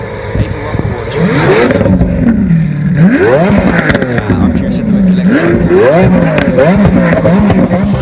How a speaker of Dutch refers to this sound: De LP87-4, een roadster met een prachtige kleur, moet ik zeggen. Azuro Flake heet die. Ja, kom op, hoe klinkt die? Ja, V12 motor. Heerlijk.